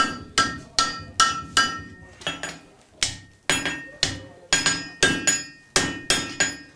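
A blacksmith's hammer rings out on hot iron and anvil in a forge in a steady run of sharp metallic strikes, about two per second with a brief pause midway, loud with bright ringing tails.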